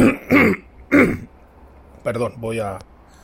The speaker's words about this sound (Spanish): Perdonar. Que me ha entrado, ha habido que carraspear un poco y supongo que para la grabación es molesto.